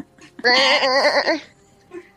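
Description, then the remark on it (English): A single loud, wavering goat bleat lasting about a second, with a quivering tremble through it, clear, followed by a faint short bleat afterward. “Seconds later, you're going to hear some noises. It's the goats she ate.”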